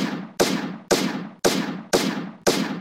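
Five loud gunshot sound effects fire in a steady rhythm about half a second apart, each sharp crack trailing into a booming, reverberant decay. No one speaks.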